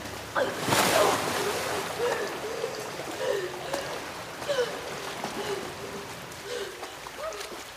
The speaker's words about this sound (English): Meanwhile, the princess slides down a water chute. She lands in a pool of water.